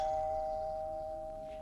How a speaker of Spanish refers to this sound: Tras ojear aquel lugar, llamaron al timbre.